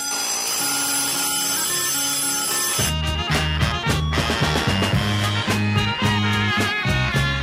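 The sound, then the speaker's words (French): A telephone rings with steady, bright electronic tones that give way to a loud, rhythmic pulsing pattern repeating every half second or so. No one speaks. “Ah oui, le téléphone. On l'avait oublié, celui-là, pendant les vacances.”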